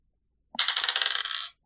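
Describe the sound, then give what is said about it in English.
Dice clatter onto a hard table, a sharp first hit followed by a second of quick, rattling clicks as they tumble and settle, then one last small tap. Fairly loud, no voices. The dice are rolled for an investigation check and show a 17. “So I have a 17 on the dice and plus 3 investigation.”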